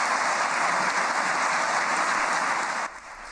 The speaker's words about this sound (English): Applause reverberates through Budapest's neo-Gothic parliament building. The 73-year-old András Baka received 140 votes in favor and 6 against to become Hungary's next president.